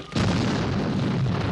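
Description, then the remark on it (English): A breaching charge detonates to blow open the locked door of the bridge: one sudden heavy boom that breaks into a loud, sustained low rumble lasting over a second, with no voices. “Prepare breaching charges on my mark.”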